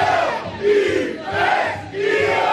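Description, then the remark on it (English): A large crowd at a live Midday Show rally at McGurk's cheers and roars without a break, the loud mass of voices swelling in rhythmic waves roughly every second, almost like a chant, with no single voice standing out. “Oh, it's a great crowd.”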